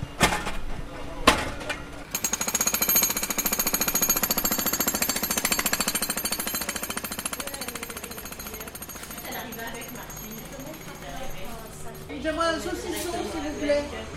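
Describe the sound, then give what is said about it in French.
A jackhammer digging up a street in Lyon, where a huge trench runs from one end of the street to the other, pounds in a steady, rapid rattling burst for several seconds. It then eases off as people's voices come through over lingering street noise. “Une tranchée énorme qui est de début jusqu'à la fin de la rue.”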